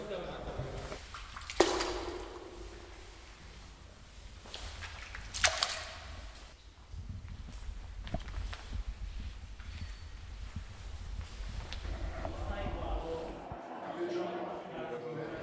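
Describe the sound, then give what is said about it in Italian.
A hydrophone recording in a small pond with a flowing river at the back of the Grotta dell'Orso cave: a continuous underwater gurgle and rush of flowing water, muffled, with a couple of sharp knocks or clunks early on before the flow cuts off abruptly near the end. “In fondo alla grotta dell'orso c'è un piccolo laghetto, col fiume che scorre. Ho provato a registrare con l'idrofono, vediamo come funziona.”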